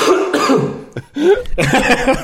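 Loud bursts of coughing and raspy throat clearing from someone hungover and dehydrated, with a brief pause near the middle before another harsh, phlegmy round of hacking.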